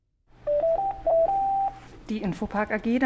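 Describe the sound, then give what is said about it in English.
A telephone at the office of web services company Infopark in Germany gives off a quick run of clear electronic beeps at shifting pitches, fairly loud, before voices start talking over a faint background hum. “The phone's been ringing a lot recently at Infopark.”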